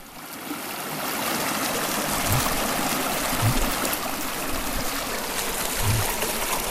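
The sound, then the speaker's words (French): The young Loire river, near its source and only the size of a small stream, flows steadily beside a hiking trail, its continuous bright rushing and trickling filling the scene, with a few soft low knocks underneath and no one speaking. “Au départ de cette randonnée, nous longeons la Loire. Nous ne sommes pas loin de sa source. Ici, elle a la taille d'un ruisseau.”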